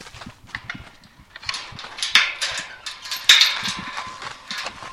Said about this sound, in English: This is what we call Draft Hill. So we have some of our draft horses here, and there are our big buddies.